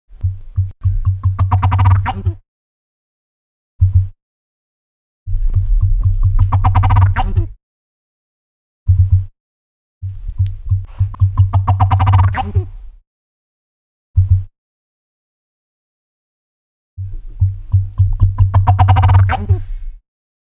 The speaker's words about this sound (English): Yes, it's the oscillated turkey. Listen to the sounds of oscillated turkeys.